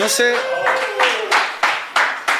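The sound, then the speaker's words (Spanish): Steady, rhythmic hand claps ring out at a moderate pace, fairly loud, following a brief tonal, voice-like sound at the start. “No sé si nos merecemos esos aplausos porque estuvimos a un punto extra en un partido de americano de irnos 3-1.”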